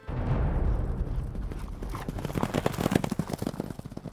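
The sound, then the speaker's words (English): Horse hooves gallop in a rapid, rhythmic pounding that emerges from a low rumbling wash and grows louder toward the end, with no voices. The horse is Sleipnir, Odin's horse, ridden by Hemrod to travel into the underworld of the Nine Worlds. “Hemrod, one of Odin's sons, volunteered and took his father's horse, Sleipnir, to travel into the underbelly of the Nine Worlds.”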